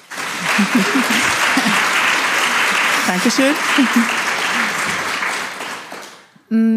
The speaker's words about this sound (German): Und die erste Frau, und erstmal einen riesen Applaus